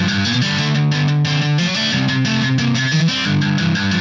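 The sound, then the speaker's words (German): Punk rock music with driving drums and a light, bouncy guitar riff, loud and steady throughout with a distorted edge, no voices. “Hier mal die Drums. Ein locker leichtes Gitarrenriff.”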